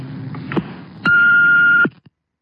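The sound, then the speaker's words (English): An answering machine beep: one steady, loud, high-pitched tone lasting nearly a second, starting and stopping with faint clicks over a low background hum, with no talking. “At the tone, please leave your name”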